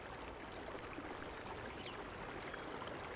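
A shallow stream beneath a white footbridge splashes and gurgles steadily over stones, a continuous bubbling wash of water with no voices.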